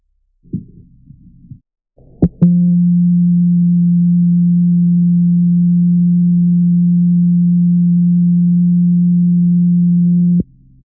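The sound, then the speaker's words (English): A Bell Light timer alert sounds, signalling that the set time is up: a loud, steady low-pitched electronic tone holds unbroken for about eight seconds, preceded by a short low buzz and a couple of sharp clicks, then stops abruptly. “Set the bell light timer instead and keep working in your backyard. When dinner is ready, the bell light will let you know.”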